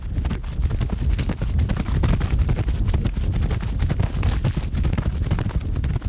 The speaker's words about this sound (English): We wanted to control the speed of the horse, so we had the trainer run the horse in a circle with a rope.